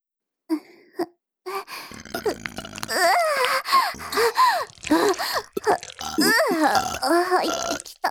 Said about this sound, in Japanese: 私たちは引き続き、ゲップを聞かせてあげる。 それじゃ、いくよー。